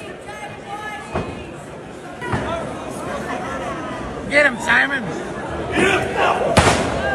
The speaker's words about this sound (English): Listen to the crowd yelling at him.